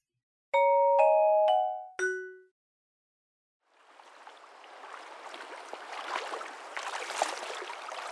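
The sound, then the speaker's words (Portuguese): A four-note chime rings out, falls silent, then steady splashing and sloshing water rises as people wade across a shallow river with the water reaching their shins, on the way to a field for planting Guarani maize, continuing without any talking. “a gente teve que atravessar o rio. Mas era raso, a água batia na canela.”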